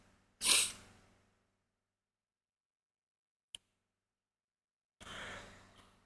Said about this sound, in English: Can you tell I'm, like, fighting a sneeze?